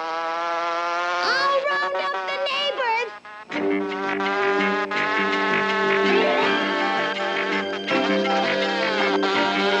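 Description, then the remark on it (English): A handmade sound effect for the buzz of Evinrude in The Rescuers: a continuous buzzing like a small insect or tiny outboard motor, with a steady beating pulse, wavering pitch and brief sputters, loud and alone for the whole stretch. “For the rescuers, he built Evinrude's buzz by hand.”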